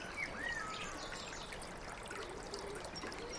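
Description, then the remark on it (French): A small stream trickles steadily over a little waterfall in spring, a continuous burbling wash of water with a faint blackbird chirp or two in the background. “Et c'est à une cascade là où il y a un petit courant.”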